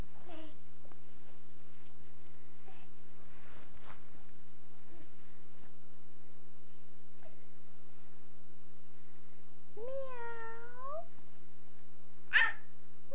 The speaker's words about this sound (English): Say hi, kitty. Be nice to the kitty.